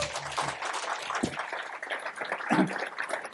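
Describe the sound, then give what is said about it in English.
An audience applauds Deputy Governor Andrew Houser, many hands clapping together in a dense, steady crackle that holds at an even, moderate level throughout, with a few brief voices rising faintly beneath it. “So, ladies and gentlemen, would you please join me in giving a warm round of applause to our Deputy Governor, Andrew Houser.”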